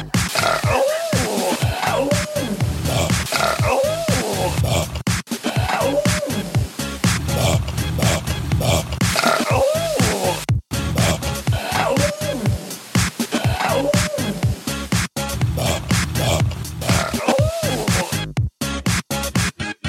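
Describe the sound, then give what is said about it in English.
A dense, loud collage of deep, drawn-out burps layered over one another, repeating in looping sections for the full length with no talking. “Folks, it's the bacon burp combined with the big fatty burps.”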